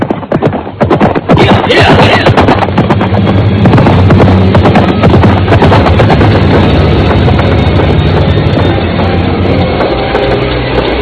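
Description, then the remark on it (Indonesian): Loud, steady clatter of horse hooves clip-clopping on hard ground for the whole stretch, a brisk rapid rhythm as several horses are ridden toward the royal city of Majapahit, with a low rumble beneath. “Sebentar kemudian mereka sudah berkuda menuju kota Raja Majapahit.”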